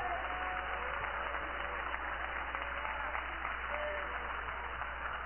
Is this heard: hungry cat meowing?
no